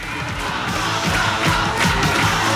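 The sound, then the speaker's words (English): A dense, lively crowd in a club with tables in front of a stage roars continuously, with overlapping shouts, yells and whoops rising out of a thick wall of chatter, loud and steady throughout. “From the doorway, Gaz, lean and sharp-featured, studies the lively crowd.”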